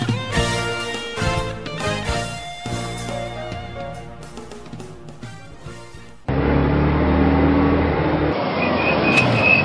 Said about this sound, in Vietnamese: Chứ ai nữa sát bên mà thắng cái tôi hết hồn quá vía.